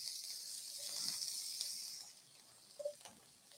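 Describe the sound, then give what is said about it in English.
Shaved Brussels sprouts sizzle in hot oil in the pan just used to cook steak, a bright hiss that is loudest for the first two seconds, then settles quieter, with a small pop near the end. “We got some shaved Brussels sprouts we're going to throw in here.”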